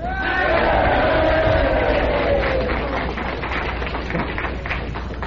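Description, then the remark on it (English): A large crowd at the Limelight on Sheridan Square in Greenwich Village, at a live Gene Shepherd show on the 4th of July, 1964, lets out a loud, sustained cheer, with rising shouts and whoops over a dense roar of many voices that fades slightly toward the end. “And now a giant symbolic cheer.”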